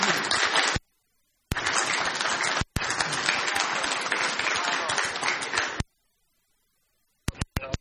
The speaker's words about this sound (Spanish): Vamos a dar un aplauso y adelante, gracias.